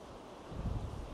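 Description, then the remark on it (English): Sea waves rush against rocks below cliffs at least 200 feet tall, in a steady, fairly quiet roar that swells deeper partway through, mixed with gusty wind noise, under a blue sky with a warm breeze. No voices. “We've got the rocks below with the sea rushing against them.”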